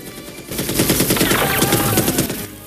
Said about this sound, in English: He takes down guards with the machine gun.